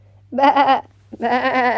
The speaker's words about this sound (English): Now who's next? He asks. Baa, baa, baa, chorus the sheep. Me, me, me.